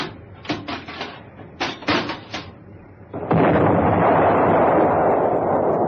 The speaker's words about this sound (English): Captain, Captain, please stop. You're making my poor boat rock. She'll fall apart with your big cannon firing from the deck like this.